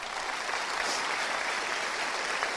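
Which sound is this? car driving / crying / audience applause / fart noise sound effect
audience applause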